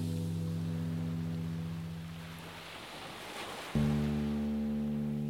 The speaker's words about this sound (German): Welle für Welle in die Weite des Meeres. Gib dich dem Rhythmus der Wellen hin.